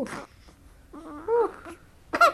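A two-week-old newborn baby girl, waking in her mother's arms, fusses and babbles in short, breathy bursts of little cooing and whimpering sounds, ending with a slightly louder squeal.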